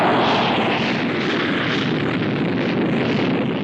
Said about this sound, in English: You are listening to the country's largest supersonic airplane, the XB-70. Shaped like a giant prehistoric bird, the XB-70 was test flown in 1967 to study handling and flight characteristics in support of commercial supersonic transport